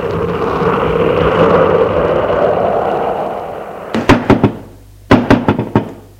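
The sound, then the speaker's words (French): A steady roar of wind-like noise fades out, then knocking on the wooden door of a shepherd's house deep in the woods on an island follows in two sharp bursts of about four raps each, separated by a brief pause. “On frappe à la porte.”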